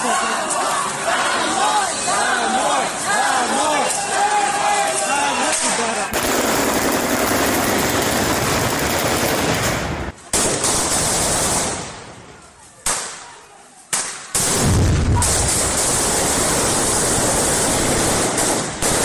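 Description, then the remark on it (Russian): A large crowd of protesters at a rally in Kakhovka, Ukraine, on 3 April chants and shouts, then loud gunfire and heavy grenade blasts from soldiers dispersing the protest break out, with sharp bangs and brief lulls as the crowd noise turns to chaotic roaring. “Солдатам не понравилось то, что люди вышли на протест, их разогнали выстрелами и гранатами.”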